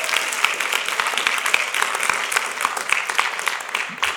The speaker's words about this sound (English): Come on, give him a hand clap and thank him for that.